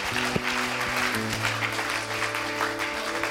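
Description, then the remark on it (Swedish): A church audience applauds Jesus, clapping steadily and densely for several seconds, a continuous wash of applause over low, sustained keyboard chords that shift pitch partway through. “Och all folket sa: låt oss ge Jesus en skicklig applåd.”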